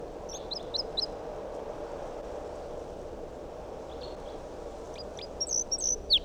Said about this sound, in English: Still 8:02 and that wild bird is up in the big pine tree above the net. Song. That sounded like type 2 calls.